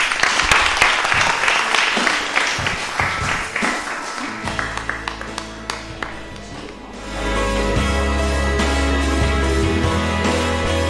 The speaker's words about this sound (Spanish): Un fuerte aplauso.